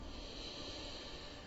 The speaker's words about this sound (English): And we'll take one more breath in here,